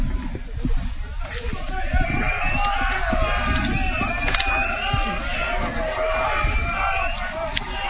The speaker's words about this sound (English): Crowd getting into it now.